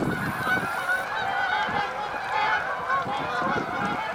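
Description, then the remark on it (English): A flock of large white waterbirds with long necks honks and calls continuously, many overlapping voices forming a dense, steady chorus, with no pauses and no talking. “One evening, there came a beautiful flock of birds out of the bushes.”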